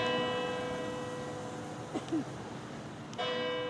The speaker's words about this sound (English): The whole of Longford lives by the bells every quarter of an hour, from 8 o'clock till 10 at night.